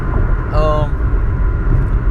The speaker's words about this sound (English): Hold on. Car's making a weird noise. Oh, that's this damn truck next to me.